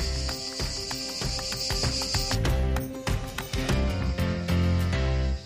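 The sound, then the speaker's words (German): A steady, shrill buzz of cicadas in Tuscany, Italy fills the first two seconds, then cuts off, leaving rhythmic crunching footsteps and a low outdoor rumble. “Übrigens nochmal ganz kurz zu den Zikaden.”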